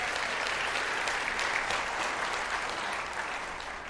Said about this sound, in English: You don't have to stand up and look, but if you look in the back, in the crow's nest and in the sound booth, those are our sound guys, and these guys do a lot of stuff for us. Can you give them a big round of applause if you don't mind?